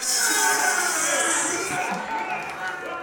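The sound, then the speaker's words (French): A crowd claps and cheers to welcome the challenger Morphée des Infinis, the Dream, in a steady, dense wash of noise for about three seconds. It stays loud throughout, with shouts and whoops mixed into the applause. “Alors merci de bien vouloir applaudir Morphée des Infinis.”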